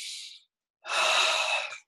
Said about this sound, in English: Okay, so we'll take a breath in and out just to normalize.